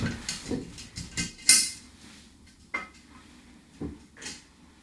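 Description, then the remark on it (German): Paper question slips rustle and shuffle as they are mixed inside an opened glass jar before one is drawn, with irregular scraping bursts and a few bright glassy clinks, one sharper than the rest, and no voices. “Genau, gut durchmischen. Schön die Coronaviren drin rumwühlen und dann eins rausgreifen.”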